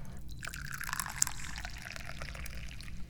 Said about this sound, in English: I am your very enthusiastic chairman, and I'm very enthusiastically now pouring some tea.